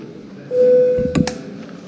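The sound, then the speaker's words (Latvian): A single steady electronic signal tone, the bell rung before a vote in a parliament session, holds for about a second at moderate volume, with a couple of sharp clicks near its end, then fades to quiet background noise. “Lūdzu zvanu.”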